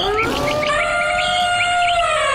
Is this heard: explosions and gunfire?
no